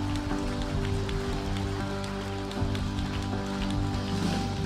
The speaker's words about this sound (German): Hey, lass uns Gott einen riesen Applaus geben.